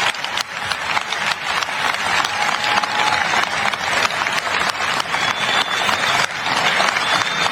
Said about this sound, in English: It's ridiculous that they're all clapping for this long. For this insane thing that was said. Let them continue. I'm not going to change this audio.